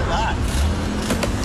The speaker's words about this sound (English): that's a green Gatorade hockey water bottle being thrown at this guy in his mom's car.